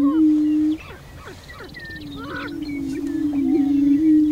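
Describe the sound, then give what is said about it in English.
Haunting prairie chicken calls at dawn surrounding a wildlife blind: a steady, low, hollow moaning drone overlapped by scattered higher whoops and cackles from several birds. “A haunting sound surrounds the blind.”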